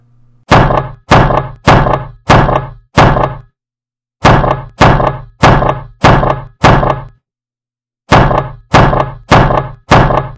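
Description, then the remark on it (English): Loud, heavy knocks on the wooden door of Shakespeare's lodgings, pounded in three bursts of five, five and four blows with short pauses between, with no voices. “It was only after knocking loudly on the door of Shakespeare's lodgings for a good 10 minutes that Nick Bottom finally realised that the door was actually unlocked.”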